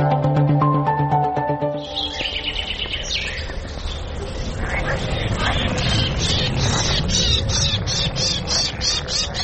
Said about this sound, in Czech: Kad čujete ovaj cvrkut ptica, žabe, insekte, vetar, da li biste mi poverovali da se nalazim u Beogradu, na samo 6 km od centra grada? Ovo su komšije Beograđana, stanovnici Bare Reve.